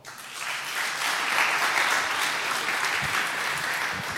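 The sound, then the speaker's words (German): A crowd applauds the event's network team (NOC) steadily, a dense wash of clapping that swells quickly and holds at a fairly loud, even level for several seconds without any speech over it. “Applaus für das Nock.”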